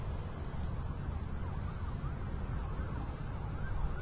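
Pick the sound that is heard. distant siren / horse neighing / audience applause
distant siren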